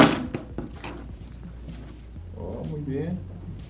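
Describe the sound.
In a phone drop test, a smartphone is thrown onto the floor with a sharp thunk, followed by a couple of lighter clacks as it settles; a person's voice is heard briefly afterward.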